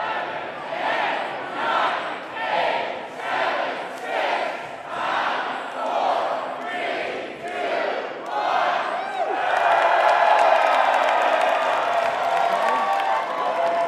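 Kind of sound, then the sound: crowd, rally crowd cheering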